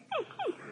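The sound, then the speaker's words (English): A dog whimpers twice, with two short, high whines that slide downward in pitch, fairly clear against a quiet background. “Ah, Bushy, that's a dog.”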